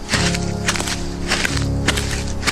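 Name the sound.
footsteps approaching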